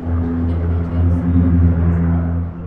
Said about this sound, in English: After it was over, I talked to one of them in the school's parking lot as a pair of firefighting air tanker planes passed overhead on their way to scoop water out of Seeley Lake.